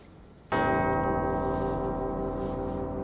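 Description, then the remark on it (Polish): A large bell, the second of the bells, is struck once and rings out loudly, its rich, shimmering overtones sustaining and slowly fading over a few seconds, with no voices present. “Tu jest drugi dzwon.”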